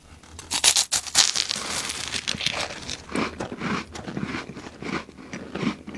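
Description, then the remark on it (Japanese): A crisp, round nori (seaweed) wafer cookie stamped with a crab is bitten with a sharp crunch, followed by several seconds of steady crunchy chewing, clear and fairly loud with no talking. “ガブッといってみよう。”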